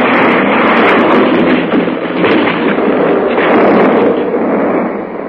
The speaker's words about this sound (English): The plane hit the tops of the trees, spun and tore its way through to the lower branches, coming to rest a few feet above the ground, cradled between two huge trees.